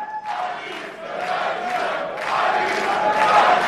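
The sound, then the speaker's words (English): A large crowd of AfD supporters waving German flags at a rally in Germany chants "Alice" for Alice Weidel in loud, rhythmic unison, the repeated shouts rising and falling over a steady roar that swells toward the end. “Alice, Alice, Alice, they're shouting like a rock star”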